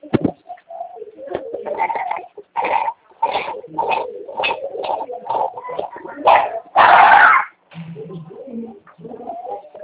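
A dog barks over and over in short, sharp bursts at a quick, uneven pace. The barks are fairly loud, with one louder, longer bark near the end.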